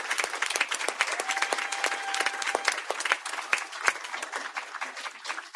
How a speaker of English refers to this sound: Please join me in appreciating our amazing para educators every day. Give them another big round of applause.